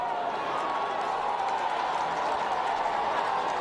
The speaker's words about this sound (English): Several children were rescued from the debris, and the crowd watching cheered when that news reached them.